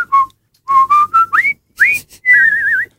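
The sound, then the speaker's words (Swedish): A person whistles a march tune identified as the one from the film The Bridge on the River Kwai, a quick string of short notes and rising slides in brisk phrases, with brief pauses and no talking. “Du visslar så dåligt som man hör inte.”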